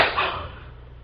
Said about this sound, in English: Don't do that to me, Ma. Don't slap me. Bad boys get slapped.